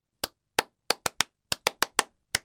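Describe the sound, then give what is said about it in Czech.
Rhythmic stadium-style clapping by a school choir inside a church, echoing off the church ceiling: about ten sharp hand claps in a syncopated chant-like pattern, crisp and fairly loud, with no talking around them. “A v zápětí se od stropu kostela odráží hřbotný rytmický potlesk, který se asi nejvíc podobá tomu, co známe z našich stadionů.”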